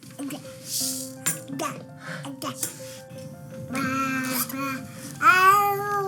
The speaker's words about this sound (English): Babbling is exactly what it sounds like, indiscernible words of jumbled consonants and vowels all strung together. It's pretty adorable when babies do it, but it's also an important stage of language development.